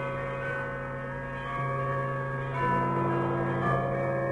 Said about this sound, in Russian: Все городские колокола зазвонили сами собой.